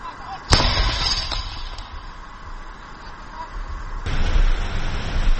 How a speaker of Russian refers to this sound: Чуйні артилеристи вже з Д-30-х нанесли ураження осколковими, значить, по скупченню піхоти. І, як кажуть, працювали вдало. Це деколи такий вихід і зразу прихід.